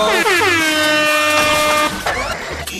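air horn blast

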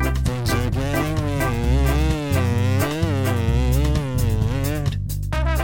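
cow mooing

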